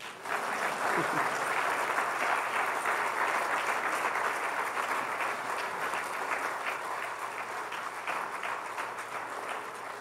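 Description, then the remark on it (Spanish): A standing audience applauds the Lord steadily for about ten seconds, a dense, even wash of many hands clapping that holds a constant loudness with no voices rising above it. “Pero no deje de aplaudir.”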